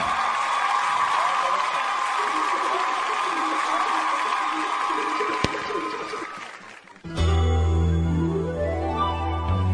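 A steady wash of audience applause and crowd noise fills the first seven seconds, fading slightly before a loud musical accompaniment abruptly begins.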